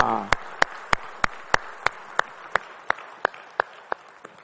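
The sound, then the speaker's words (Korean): An audience claps in steady unison, giving glory to the Lord after a choir's praise singing, about a dozen crisp, evenly spaced beats at a brisk pace over a low background murmur, with no one speaking. “우리 찬양을 받으신 주님께 영광의 박수 올리겠습니다.”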